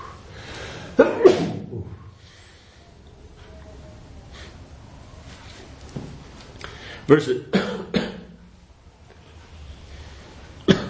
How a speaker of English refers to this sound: Why does a sneeze turn into a cough? Sometimes it comes together. Weird. You mean that you sneeze and cough at the same time? At the same time.